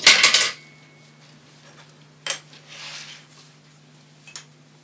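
Dishes clatter loudly, then two lighter clinks follow a couple of seconds apart over a low steady hum, with no one talking. The dishes are being washed after a meal.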